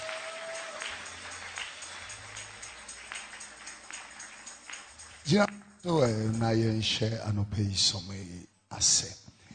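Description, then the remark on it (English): An audience at an Alabaster International Ministry Jesus Celebration service claps steadily in a dense, even wash of applause for about five seconds, then the clapping stops and someone begins speaking loudly over the quiet. “Come on, clap for her.”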